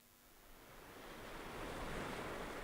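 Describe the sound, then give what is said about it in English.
Waves wash onto a lake shore at Whitefish Dune State Park in Door County, Wisconsin, carrying fine sand, in a steady, broad roar that swells louder partway through, with a breezy hiss of wind over the surf and no voices. “Waves are crashing under the shore of Door County's Whitefish Dune State Park.”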